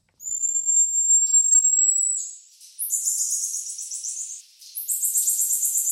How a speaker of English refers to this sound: That might sound like birds, but it's actually marmoset monkeys having a chat in the rainforest in South America. They're only 8 centimetres long, feed on insects, fruit, sap and gum, and these super cute little bundles of fur are native to Bolivia